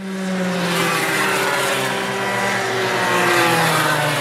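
Racing karts driven by children aged 5 to 7, pupils of a karting academy at Swartkopf's, roar around a track, their small engines droning loudly and steadily with a buzzing, layered whine that holds its pitch with slight wavering throughout. No voices are heard.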